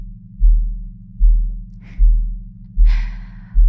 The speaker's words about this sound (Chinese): 记住你的心跳为我失序的瞬间。